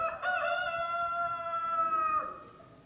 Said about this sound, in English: Immediately, a rooster crowed.